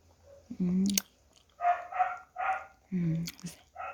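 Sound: dog barking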